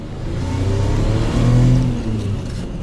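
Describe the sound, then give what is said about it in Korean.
A car engine revs loudly and rises in pitch as the vehicle speeds past, its roar swelling and then easing off. It is a fancy car with gleaming windows and luxury leather seats, breathtakingly big and fast, raising a cloud of dust on the road. No one speaks. “순간 반짝이는 유리창과 고급 가죽 의자에 멋진 자동차가 언뜻언뜻 보였다. 숨막힐 정도로 크고 빨랐다.”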